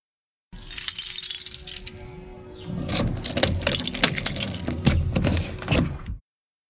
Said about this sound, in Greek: Κλειδί που ανοίγει πόρτα.